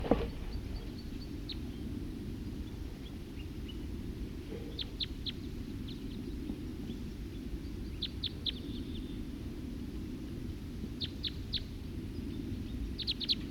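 bird, wild bird song

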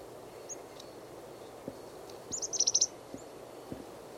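bird, chickadee calls

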